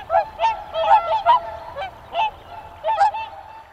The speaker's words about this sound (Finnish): esimerkiksi tässä haastattelupaikalla niin ikkunasta nähdä, kun tuossa joessa pyörii joutsenet